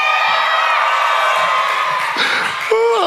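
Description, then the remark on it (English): An audience cheers and whoops loudly and continuously for about three seconds after being asked to make some noise if they are in a relationship, with high shouts and yells layered over a steady roar of many voices. “Come on, make some noise, in a relationship.”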